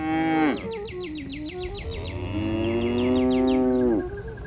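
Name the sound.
cows mooing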